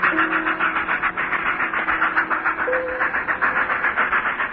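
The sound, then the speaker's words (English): A train of eight trucks rolls past along an embankment and into a tunnel with a steady, rhythmic clatter of wheels and a low sustained hum, loud and continuous throughout, with no voices. “8 trucks passed across the dim gray of the embankment and were suddenly extinguished one by one in the throat of the tunnel, which, with the last, seemed to swallow down train, smoke, and sound in one abrupt gulp.”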